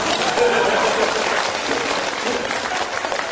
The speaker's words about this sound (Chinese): 哎，最后赶快鼓掌吧。